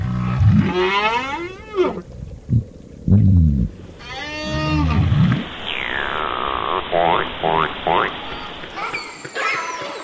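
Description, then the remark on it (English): Whale song underwater in the ocean: a series of long, moaning calls that rise and fall in pitch, joined by a sweeping whistle and shorter chirps, loud with no talking. “Day and night, whales, fish, and other species are singing, using their sounds, grunts, whistles, drumming, echolocation to forage, to find mates, to avoid predators.”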